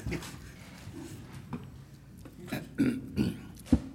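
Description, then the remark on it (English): Low, rolling thunder rumbles continuously, swelling into several heavier bursts toward the end, with one sharp crack near the close, heard just down the block from a property being discussed at a hearing. No voices are heard. “We're just down the block from this particular property as we hear the thunder.”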